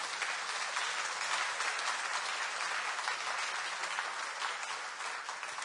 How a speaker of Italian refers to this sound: Facciamo un applauso a Gesù.